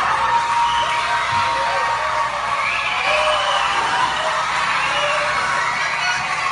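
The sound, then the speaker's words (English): A large group of schoolchildren at a school in Puerto Rico cheering and shouting together as the power comes back on after 112 days without it, loud and sustained throughout, a dense wash of excited high-pitched voices with scattered whoops rising above the crowd noise. “That is a school in Puerto Rico. They had been without power for 112 days, and the power just came back on.”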